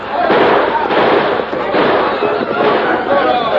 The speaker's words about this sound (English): We fired those shots.